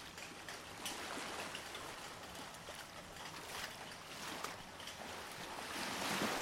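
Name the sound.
ocean waves surging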